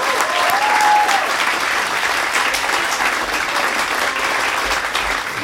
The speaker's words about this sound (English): Clap your hands for Maria Bamford.